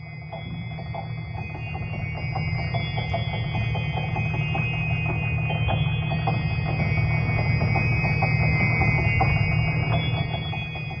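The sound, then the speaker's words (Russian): An old, restored clock mechanism in a palace ticks steadily and quickly against a continuous whirring hum, with faint sustained ringing tones hanging above it. The sound is moderately loud, with no voices. “Сегодня почти все часы действуют.”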